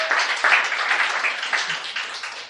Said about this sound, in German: Ihr bekommt einen zünftigen Applaus, gell? Jawohl.